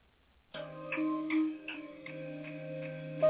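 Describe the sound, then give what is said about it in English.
A steady clock tick-tock repeats roughly every half second, layered over sustained, humming musical tones that begin abruptly and hold throughout. “My snooze button broke, but my clock keep ticking.”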